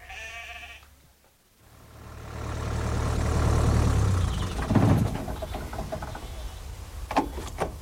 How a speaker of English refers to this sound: Don't want them sheep going all over the road now, do we?